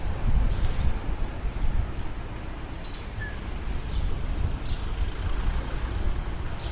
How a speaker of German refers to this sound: Aber ich lasse kurz den republikanischen Bus durch.